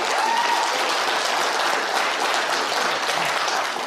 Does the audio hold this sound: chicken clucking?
no